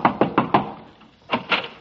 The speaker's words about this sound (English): I'll knock on the door.